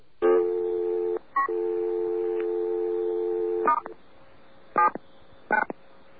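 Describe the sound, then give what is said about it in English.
A steady telephone dial tone with a brief chirp-like break near its start, marking an active name-dialing phone service, followed by a few short touch-tone dialing beeps spaced apart as an office line is called. It is clear, with no voices. “By the way, I should point out that there's a little chirp on the dial tone when you have this service, and the first time you use it, the chirp is followed by another dial tone because you don't have any names entered.”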